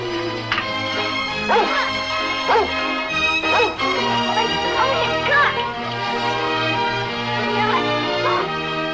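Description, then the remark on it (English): A yellow dog barks and yips several times at irregular intervals, mixed into a dense, sustained musical background with some voices, the barks partly blended into the busy scene. “Well, looks like we've got us a dog.”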